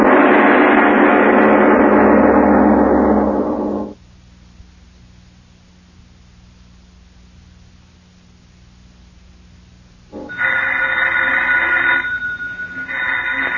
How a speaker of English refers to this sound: Miss Goddard, answer the phone, please.